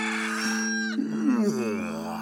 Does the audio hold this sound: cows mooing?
yes